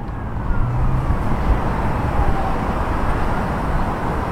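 A steady wash of hissing road traffic mixed with rustling leaves, while a faint siren wails somewhere far off. The whole scene stays fairly quiet and even, with no voices.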